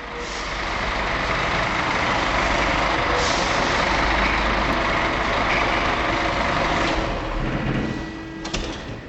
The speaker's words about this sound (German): Auf der Maasvlakte im westlichsten Zipfel des Rotterdamer Hafens trifft ein Lastwagen zur Zollkontrolle ein. Seine Ladung, ein Schiffscontainer, muss untersucht werden.